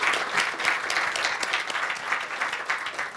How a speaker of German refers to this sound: Dein Applaus.